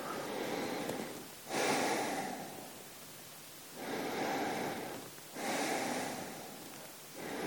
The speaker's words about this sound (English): I don't know why, but I just like to do some big deep breaths or heavy breaths just to start with. It just somehow relaxes me. I just do them in my own time. It's like the start of my meditation.